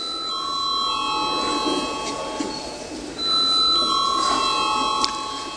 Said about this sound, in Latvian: Paldies, lūdzu zvanu.